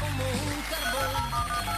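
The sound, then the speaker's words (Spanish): A telephone rings with a melodic electronic tone, stepping through short repeated notes over a steady low hum, fairly loud, with no one speaking. “Vamos al teléfono.”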